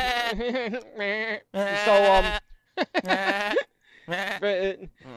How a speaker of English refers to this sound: Goat! Goat! Goat! Fucking goat kicking my ass!